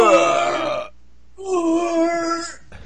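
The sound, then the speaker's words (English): A voice imitates the grunt of Axel, a character in the video game Streets of Rage, over its first level: two loud, strained vocal bursts, the first about a second long, then a longer, steadier one after a brief pause, with no other sounds. “You might want to do the Axel sound effect, which is.”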